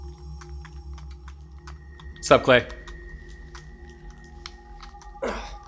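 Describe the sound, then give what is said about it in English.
Soft, rapid clicking of Nintendo Switch game controller buttons taps away steadily under a low hum, with a couple of short bursts of a man's voice speaking over it. “Are you typing?”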